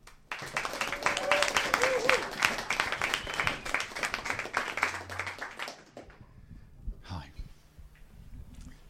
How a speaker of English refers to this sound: Please give a warm welcome. Please clap your hands, stamp your feet if you like,